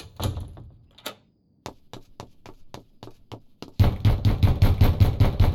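A series of sharp knocks on a locked door, spaced unevenly, followed by rapid, louder pounding that continues until the end.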